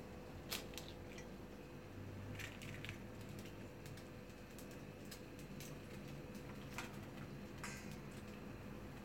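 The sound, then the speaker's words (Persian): Faint, sporadic crisp clicks and taps of an egg being cracked open into a frying pan, with a few soft squishy sounds over a low steady background hum; no one speaks. “خب الان تخم مرغ من شکستم، بعد که تخم مرغ شکستم با قاشق فقط صافش میکنم توی مایتاب.”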